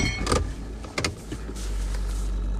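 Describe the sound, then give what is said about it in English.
NASCAR Cup Series race cars roaring, with a couple of sharp whooshing bursts near the start, then a steady low engine rumble holding at a moderate level to the end. Nobody speaks. “Race cars.”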